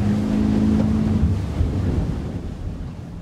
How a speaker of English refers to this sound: Once there, the group split up amongst the many boats in Captain Tofield's fleet and headed out to the open waters just as the sun began to rise.